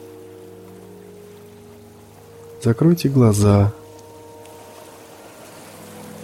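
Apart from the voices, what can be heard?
sea surf waves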